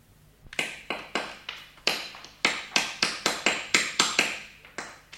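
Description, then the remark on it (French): A kneeling figure by a fireplace in a museum pounds broken glass with a hammer in a quick series of about a dozen sharp strikes, each with a bright, crunchy, glassy crack that briefly rings, in a fairly steady rhythm with no voices. “Elle s'approcha de la cheminée, s'agenouilla, et, levant un marteau, elle se mit à pilonner les cassures de verre que Sherlock Holmes y avait déposées.”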